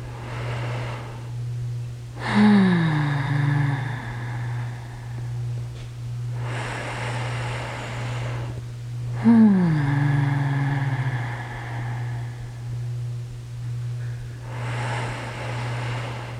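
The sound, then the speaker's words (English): Several deep, rushing breaths repeat at a steady pace during a deep-breathing exercise, deeper, bigger breaths taken a little faster, each a broad whoosh of air, over a constant low electrical hum. No one speaks. “Deeper, bigger breaths, a little faster, and see if the wave changes.”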